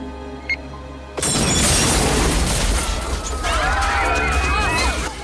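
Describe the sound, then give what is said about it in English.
After a second of near quiet, a sudden loud explosion erupts into a sustained roaring rumble, with thin whistling, wavering tones rising over the din toward the end. “May smiles as the explosion goes off.”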